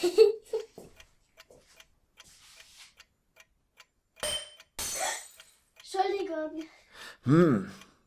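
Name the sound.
many clocks ticking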